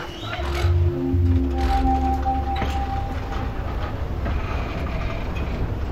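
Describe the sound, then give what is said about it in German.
Steady low rumble of a train rolling along rails, with faint rhythmic clatter and a few brief tonal squeals, continuous, as if heard from inside a carriage. “Stefan sitzt gerade im Zug, als er den Spiegelartikel zum ersten Mal liest.”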